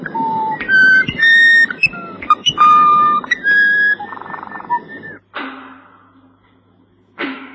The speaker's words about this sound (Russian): человек, хоть раз услышавший Варапуру, будет счастлив до конца дней. В этом поверье не столько наивности, сколько философической грусти, ибо амазонский соловей поет лишь несколько часов в году и встречается в селе еще реже, чем счастливый человек.